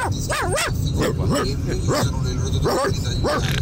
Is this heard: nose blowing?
no